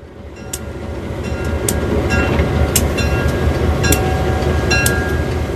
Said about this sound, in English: These trains are now owned by private individuals who put a lot of time and money into restoring them.